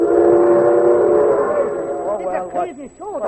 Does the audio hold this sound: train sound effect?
yes